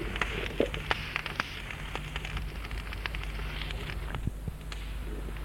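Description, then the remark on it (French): A fire of burning straw crackles steadily, with sharp irregular pops and snaps scattered over a constant soft hiss, not loud, and no voices. “On n'entend que le crépitement du feu.”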